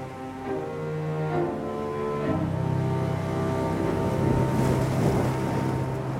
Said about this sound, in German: Da unten rauschte, brauste, brodelte und tobte, brüllte und murmelte das Meer. Deshalb Murmelpfad. Denn mindestens ein Murmeln hörte man oben im Häuschen immer.